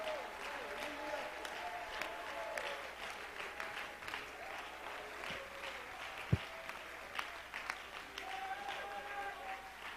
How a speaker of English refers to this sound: Come on, let's clap our hands and praise him right now.